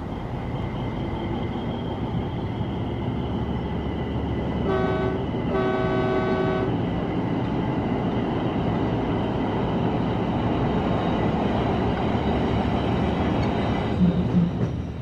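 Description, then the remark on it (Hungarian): A train rolls by on the tracks with a steady, loud rumble, broken early on by two short, bright horn blasts in quick succession. No one speaks. “Ez egy jó vonal, sohasem késik.”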